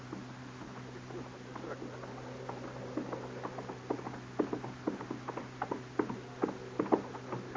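horse hooves approaching

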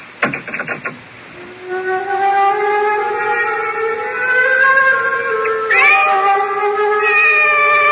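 cat meowing

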